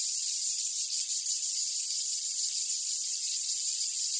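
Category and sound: insect, cicada chirping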